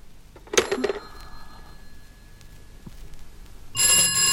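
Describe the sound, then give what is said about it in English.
A telephone on a shared line rings loudly in two bursts: a short metallic jangle that hums away, then after a quiet pause a sustained, brassy ring that runs to the end. No one speaks. “They keep ringing me and tying up my line.”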